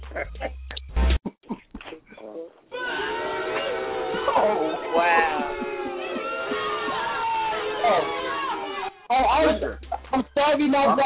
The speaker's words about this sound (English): I don't appreciate getting booed. I don't have the button. Don't say that. Oh. And that was a loud boo, too. Yeah. And long, like, boo.